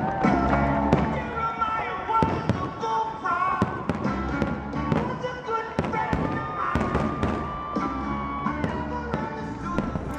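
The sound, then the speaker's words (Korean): Independence Day fireworks on July 4 in Washington, DC burst repeatedly in an irregular volley of sharp bangs and pops, steady and fairly loud throughout, with a murmur of voices and background noise underneath. “작년 7월 4일 이곳 워싱턴 DC 안에서 진행됐던 독립기념일 불꽃 행사 가운데 일부를 들으신 건데요.”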